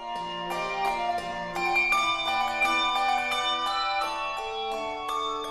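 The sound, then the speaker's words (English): The Sonos Handbell Ensemble rings a mix of Schulmerich and Malmark handbells, overlapping tuned bells in a steady melodic pattern, with bright struck tones and long shimmering decays layering into rich chords. The bells are moderately loud, with no voices. “This is the Sonos Handbell Ensemble, one of the few choirs that mixes Schulmerich and Malmark bells.”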